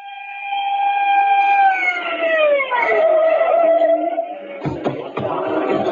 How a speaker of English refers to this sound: The screaming siren of Lieutenant Edwin Grounder's squad car broke the silence of the night as it pulled to a stop in front of a rooming house on Main Street, where, despite the lateness of the hour, a sizable crowd had gathered.